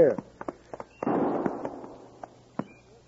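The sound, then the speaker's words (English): Three sharp gunshot cracks ring out in quick, uneven succession as a signal, one followed by a long rumbling echo that fades before a final crisp shot. “No, he said he'd shoot 3 shots if he found Brown first.”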